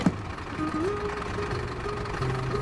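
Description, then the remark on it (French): A bus engine drones steadily, its low hum rising slightly in pitch as it labours on each bend of the road, with a constant rumble throughout. “Le bus gémit, suffoque à chaque virage, tandis que le soleil grimpe au revers des montagnes, que le ciel s'éclaircit.”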